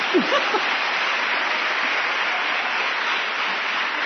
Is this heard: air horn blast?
no